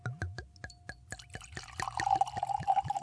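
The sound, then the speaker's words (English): White Orvieto wine glugs from a bottle in quick, even bursts, then settles into a steady stream filling a glass in Italy, the pitch rising as it fills, with no talking. “And this is a wonderful Orvieto that we're pouring here”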